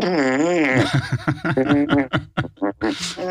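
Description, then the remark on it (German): A voice makes a long, wavering mouth-fart imitation, then breaks into a string of short, sputtering bursts and giggly laughter, fairly loud. “Ich kann nämlich ganz toll diese Furze imitieren.”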